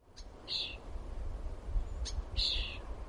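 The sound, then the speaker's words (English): Baby birds not yet ready to fly chirp in their nest while waiting for food, two short, high, raspy calls spaced about two seconds apart, over a low rumbling background with a few faint clicks. “Baby birds, not quite ready to fly, stuck in their nests, waiting for their food to be delivered.”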